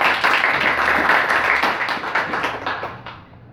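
A church audience claps for the Lord during a sermon in a dense, continuous burst of applause, loud and steady before thinning out and fading toward the end, with no voices over it.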